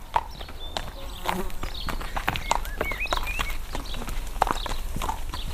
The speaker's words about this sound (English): If you needed a delivery, well, then you would listen for the cart that would be coming with its horses, you know, and you'd know the kind of sound that you'd be listening for.